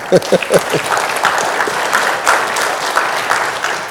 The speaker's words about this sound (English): All right, why don't y'all give Jesus a round of applause? How about that? Come on, is that all right?